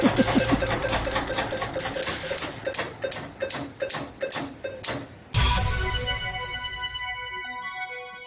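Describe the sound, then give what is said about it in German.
A prize wheel ticks rapidly over a busy musical bed, its clicks slowing and spacing out until it stops, followed by a bright, sustained ringing chime that rings out alone. “Wetteraukreis ist da gerade das Glücksrad stehen geblieben.”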